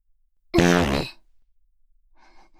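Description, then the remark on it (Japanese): A single loud, buzzy fart from a woman, about half a second long, with a low, wavering pitch that tapers off, followed by a faint breathy rustle. “そうよ、おならよ、おなら。屁こいたの。”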